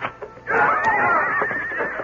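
horse neighing

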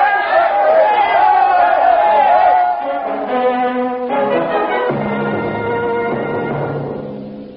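angry mob shouting

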